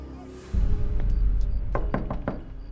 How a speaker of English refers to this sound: The woman who posed as Hodges' attorney knocks at Tony's motel room door. He lets her in.